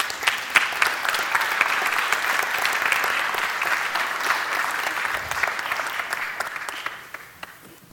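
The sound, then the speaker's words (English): Steady audience applause, a dense patter of many hands clapping at an even loudness for several seconds, then thinning and fading out near the end. No one speaks over it. “And so once again, I'm going to ask you just to give a round of applause to thank them.”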